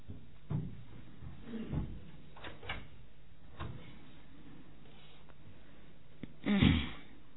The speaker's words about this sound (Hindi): ये दरवाजा बंद कर दो, यहां से कोई ना आवे अभी, उसको बंद ही कर दो, स्टॉपर लगा दो।